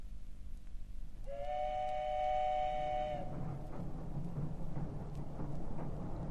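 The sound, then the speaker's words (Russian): A passenger train bound for Moscow rolls along the rails with a steady rumble. A loud two-second horn blast sounds near the start, then the clatter carries on alone. “На другой день с 7-часовым утренним поездом Петька уже ехал в Москву.”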